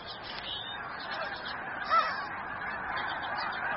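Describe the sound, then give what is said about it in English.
A large flock of geese on the tundra honks continuously in a dense, overlapping chorus, with one slightly louder call standing out midway. No one speaks. “Here, geese can nest on the ground in relative safety.”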